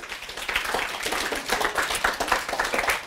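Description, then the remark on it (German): A burst of applause from a small group on the Kakadu programme, thanking a contributor for an idea, dense irregular hand claps running steadily for a few seconds at moderate loudness, with no talking over it. “Applaus”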